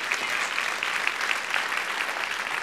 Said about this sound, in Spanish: Gloria a Dios, un aplauso al Señor que se lo merece.